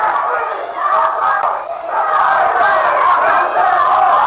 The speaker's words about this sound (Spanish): Han comenzado aquí en la sala, acaso a distinguir desde la cabina donde estoy, unas mujeres que están gritando y un individuo que trata también de promover desórdenes. Asesino, grita.